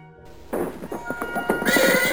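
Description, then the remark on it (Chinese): A horse-drawn carriage pulls up and stops outside the door: a quick run of rhythmic hoof clops, followed by a horse's bright, rising whinny at the end. No one speaks. “从门外传来了马车停下的声音，接着就响起了门铃声。”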